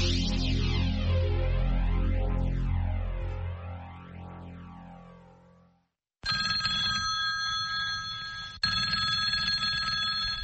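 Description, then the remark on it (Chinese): A swirling, phased whoosh fades away into silence, then a loud telephone bell rings in two sustained bursts with a brief break between them: a late-night call on 15 December 1978 in Taiwan. No one speaks. “1978年12月15号深夜的一通电话，改变了台湾的命运。”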